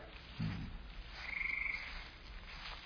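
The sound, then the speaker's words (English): Frogs croaking in a marsh: a low, throaty croak near the start, then a thin, buzzing trill a moment later, over a steady hiss of background noise. “It's all frog marshes.”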